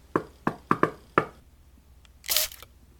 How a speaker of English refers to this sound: Moment of truth. Gotta catch me by surprise. Let's give this door a knocky knock.